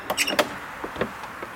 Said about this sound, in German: Ein altes Fachwerkhaus, das so aussieht, als gehörte es mal zum Kloster. Das Licht. Wir warten, dann öffnet eine Frau die Tür.